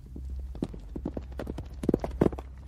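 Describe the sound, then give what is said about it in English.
Hooves of young horses being broken in at stables in France clip-clop in a steady, brisk rhythm of sharp knocks over a low constant rumble, with a couple of louder hits toward the end. “Part of the work Emma did at the stables in France involved breaking in young horses”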